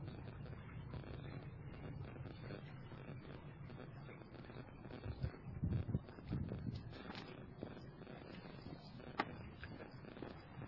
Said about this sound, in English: So the River Ravensbourne is in a concrete passage here, going under the road. and you can hear it running, slightly echoing.